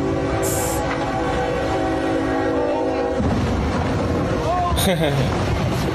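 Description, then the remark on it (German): A train blares its horn as it approaches, then a loud, rough crashing roar bursts in as it smashes into a wind turbine blade that a truck was trying to move across the railway track. Excited voices shout in the background. “Also hat ein LKW versucht, ein Windrad, ein Flügel davon über die Bahnschiene zu kriegen. Ja, und der Zug hat das Ding einfach mal.”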